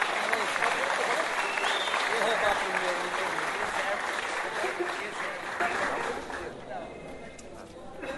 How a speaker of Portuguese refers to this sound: Pode aplaudir.